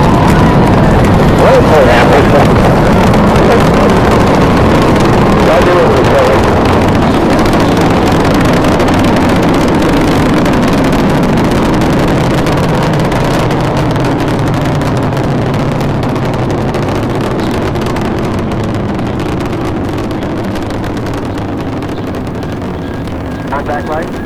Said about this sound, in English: Booster ignition and liftoff of the Space Shuttle Discovery, returning to the space station, paving the way for future missions beyond.